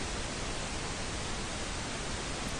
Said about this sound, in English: Just as visible light varies from red at the lower energies up through yellow and blue, we can tilt this flat white noise to add emphasis to other sets of frequencies. If we accentuate the low end, for instance, we get pink noise.